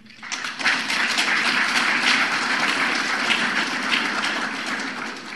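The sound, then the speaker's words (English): A crowd bursts into sustained applause after Barack Obama quotes the Quran in a speech, a dense crackle of many hands clapping that swells within the first half-second and holds steady and loud throughout, with no voices. “Second, I'm amazed about Muslims who clap their hands when Mr. Obama quotes the Quran.”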